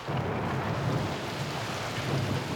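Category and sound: nature, thunder rumbling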